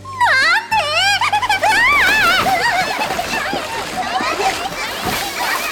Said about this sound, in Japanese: しょうがないわね、あの子たちは。 子供じゃないし、銭湯で大騒ぎなんて。